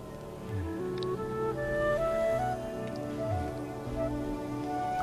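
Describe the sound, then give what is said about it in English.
Whale song: low, drawn-out moaning tones that slide up and down in pitch, several overlapping at once, over a steady watery hiss, with no one speaking. “It's odd there because the sound of the whales became very ominous and terrifying.”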